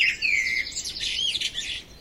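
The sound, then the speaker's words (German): A blackbird calls and sings in a rapid run of bright, warbling chirps and whistles for about two seconds, clear with no voices present. “Aber hören Sie nur, die Amsel ruft uns.”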